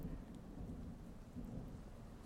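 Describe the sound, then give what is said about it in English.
Steady, heavy rain pours down with a dense hiss, backed by a deep rumbling low end like thunder. It is continuous and fairly loud, and no voices are present. “Oh, you're quite cold now that it's started to rain.”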